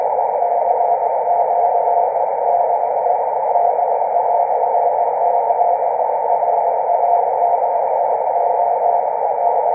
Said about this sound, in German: Als nächstes wollen wir den Sprung auf minus 10 Dezibel wagen. Das Telegrafiesignal ist 10 Dezibel unter der Rauschleistung. Dazu zunächst wieder das 0 Dezibel Signal als Vergleich und dann direkt in Folge das minus 10 Dezibel Signal.